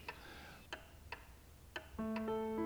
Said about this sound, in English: And we want you to be so quiet that all you will hear is this old clock. Tick, tock, tick, tock.